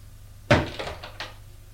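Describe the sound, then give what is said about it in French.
A bedroom door on the upper floor is opened: a sharp wooden clunk from the latch, followed by a few softer knocks and rattles as it swings, fading quickly into quiet. “Ouvre une porte.”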